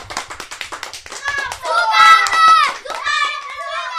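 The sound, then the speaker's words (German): Four people clap: a quick burst of sharp hand claps in a fast, even rhythm, soon joined and then overtaken by loud high-pitched voices calling and singing, with a few claps continuing underneath. “Die 4 klatschten.”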